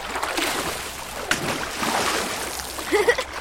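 A large whale splashes vigorously in water, with a steady wash of churning noise, a sharp slap near the start and a cluster of heavier splashes toward the end, loud.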